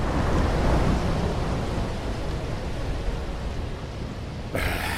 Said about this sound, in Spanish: Sí, menuda tormenta.